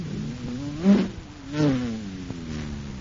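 A person's vocal imitation of a cosmic surface car supercharged with super fuel: a buzzy, steady engine drone surging in two quick revs before settling back into a continuous hum. Fairly loud, with no talking.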